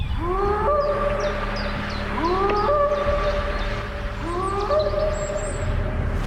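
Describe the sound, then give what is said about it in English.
An unfamiliar animal, heard by hikers approaching a creek in the wilderness of Trinity County, California, on a clear day just after 10 a.m., lets out three high, rising wails, each swooping upward and then holding, spaced a couple of seconds apart over a steady low background rumble. “Then they heard an unfamiliar, high-pitched animal call.”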